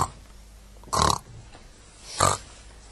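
Two short, squealing oinks like piglets, about a second apart, each a brief bright burst standing out clearly against a quiet background.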